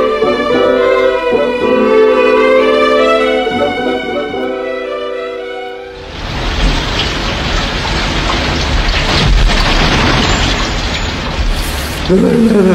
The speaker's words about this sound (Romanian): Auzi cum pohotește vântul printre copaci și cum biciuiește ploaia pălăria mea cea mare? Te cred că aud, parcă ar fi sfârșitul lumii.